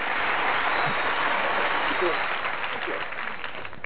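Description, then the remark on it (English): An audience cheers and applauds in response to a host's pun, a dense, steady roar of clapping and voices that holds loud for about four seconds, easing off slightly toward the end. “No, that gets a cheer.”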